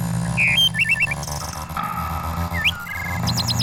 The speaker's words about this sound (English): The song of a bird.